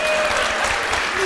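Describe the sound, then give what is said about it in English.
A short burst of audience clapping at a live show after a request to clap for a piece written about the Al Smith dinner, dense and steady, with many hands blending into a loud, even wash of applause for just over a second. “Please, some of you fucking clap like you read it.”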